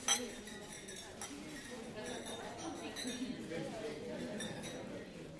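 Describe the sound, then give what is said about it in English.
Glasses clink together in a toast at an evening gathering of governors, a bright chime at the start followed by scattered lighter clinks, over a steady murmur of many people chatting. “So tonight I simply would like to propose a toast to the families that support us, to the citizens that inspire us, and to this exceptional country that has given us so much.”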